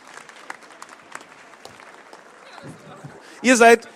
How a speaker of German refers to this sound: Und du kommst auch auf die Bühne und das ist dein Applaus.